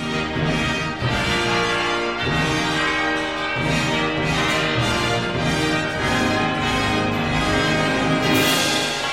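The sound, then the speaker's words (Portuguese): Church bells toll repeatedly over a loud, full orchestra reinforced by a military band playing a grand, sustained passage near the end of the piece, marking a Russian triumph with the return of an Orthodox hymn; the bell strikes ring out in a steady pattern within the dense sound. “Próximo da conclusão da obra, aproximadamente aos 13 minutos e meio, o triunfo russo é evidenciado pela retomada do hino ortodoxo, por badaladas de sinos e um grandioso tutti orquestral, avigorado por banda militar.”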